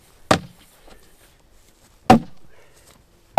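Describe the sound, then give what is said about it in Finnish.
Sharp, heavy axe strikes hit a log being split at an unhurried pace. There are three loud cracking blows with quiet pauses between them and a brief woody rattle after the second. “Mutta minä luulen, että tää kyllä halkee enempi kuin minä luulen, mutta kohta mossahtaa.”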